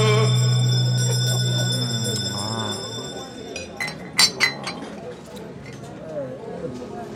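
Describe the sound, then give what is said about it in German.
A bell is rung to signal the last round, ringing out with a steady, humming tone that slowly fades, followed by a few sharp, bright clinks, with muffled voices underneath. “Egal, wir lassen die Glocke läuten und gehen in die letzte Runde.”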